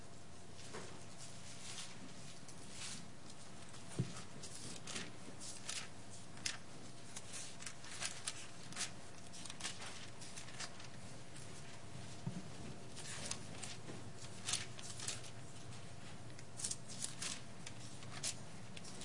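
Soft papery rustling and flicking as thin pages of a book are turned one after another to find Luke 23:24, with irregular crisp bursts over a quiet hush and no talking.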